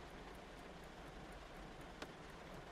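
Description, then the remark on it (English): Soft, steady rain falls at night in a continuous hiss, with faint scattered drops ticking through it and one sharper tap near the end; no voices. “You might want to just stand for a moment, gazing around you and soaking up the atmosphere in this rain haven.”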